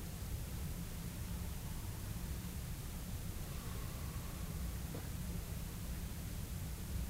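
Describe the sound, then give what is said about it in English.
Flowing water rushes steadily for the whole stretch, a dense, unbroken hiss with a heavy low rumble and no speech, only a faint brief tone and a soft click midway. “Still flowing water, listen.”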